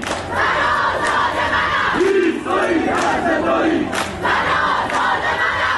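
A large night-time protest crowd in Ekbatan, Tehran, Iran chants and shouts together in loud, continuous waves, with sharper bursts of yelling rising above the roar every second or so and a brief drawn-out collective cry in the middle.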